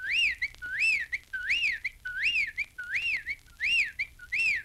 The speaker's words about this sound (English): That was a whippoorwill.